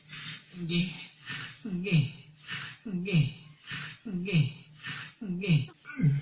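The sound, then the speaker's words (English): Heavy, labored breathing in a steady rhythm, about eight loud gasping breaths, each with a voiced groan, from people who have just come over a hill. “And there's like and there's this delay waiting for a radio call back, and all you hear is heavy breathing.”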